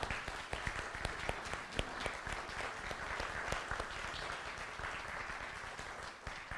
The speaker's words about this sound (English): So my own applause to you.